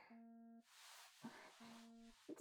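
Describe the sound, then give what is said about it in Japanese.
A phone rings with an incoming call, two loud, steady electronic tones, each about half a second long and separated by a short pause, with no one talking. “あ、びっくりした。電話？”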